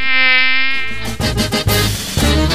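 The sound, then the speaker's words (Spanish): A mosquito's thin, high-pitched whine drones loudly for about a second, then turns choppy and fluttering as it mixes with busier, broader sounds. “Pero uno de los mosquitos la responde.”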